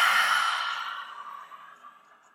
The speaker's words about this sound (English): Exhale, lion's breath. Inhale through the nose. Exhale, lion's breath.